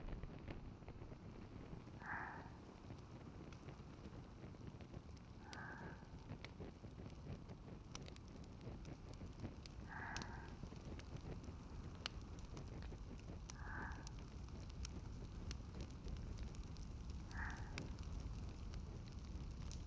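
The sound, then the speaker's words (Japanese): Firewood just lit with a match and fire starter crackles in a fireplace: a steady low roar of flames with frequent sharp pops and snaps scattered throughout, continuous, with no one speaking. “燃え始めましたね。薪がパチパチと音を立てて、空気が乾いていく感じ、私とても好きなんです。”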